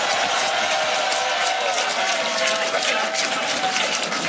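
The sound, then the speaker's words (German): A large crowd cheers and claps continuously at Rafał Trzaskowski's election party in Warsaw, a dense roar of applause and shouting voices filling the space at steady, loud intensity throughout. “Auf seiner Wahlparty, der hat in Warschau gefeiert, ist er in Jubelstürme ausgebrochen.”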